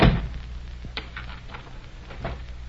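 A door to a room shuts with a heavy low thud, followed by a few faint metallic clicks and rattles as it is locked, over a steady low hum with no talking.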